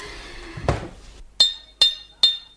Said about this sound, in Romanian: Bate gongul. Da. De trei ori, auzi? De trei ori. Unu, doi. Unu, doi, trei.